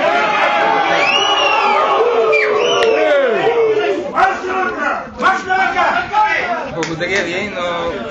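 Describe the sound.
A loud crowd at the musical theatre jeers with shrill, sliding whistles and booing at new director Boris Pankin as he arrives at the back entrance with deputy culture minister Dimitar Derelev. A dense wall of shouts and overlapping voices stays heavy throughout and turns choppier toward the end.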